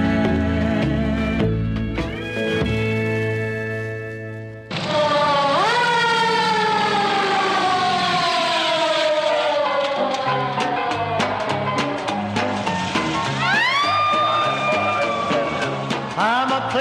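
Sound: emergency vehicle siren wailing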